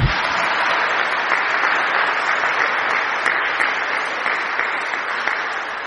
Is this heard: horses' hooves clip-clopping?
no